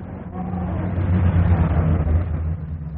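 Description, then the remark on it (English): Steady rumble of city street traffic with cars and buses, engines droning low and a vehicle revving, a continuous wash of road noise and no voices. “Cars, buses. Not like Grandad's day.”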